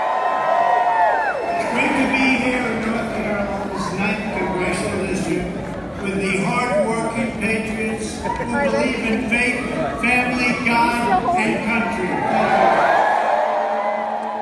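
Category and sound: crowd, rally crowd cheering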